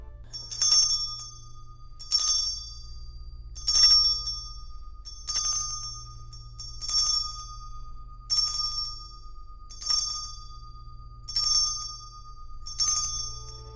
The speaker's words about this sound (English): So now I think it's your turn with the chime.